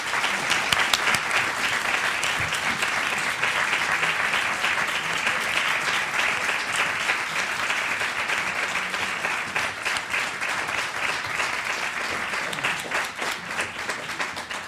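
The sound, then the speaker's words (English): A large audience claps steadily and loudly, welcoming Mark Lamont Hill and Mehdi Hasan on stage, sustained applause without pause for about fifteen seconds, dense and even throughout. “So let's give them a warm welcome, Mark Lamont Hill and Mehdi Hasan.”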